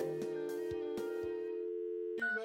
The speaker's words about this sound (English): Phone call?